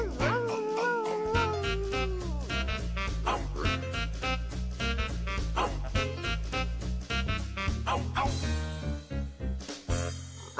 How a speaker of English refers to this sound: Did you hear that, Toes? What was it? Oh, I see. It was the dog from our next story.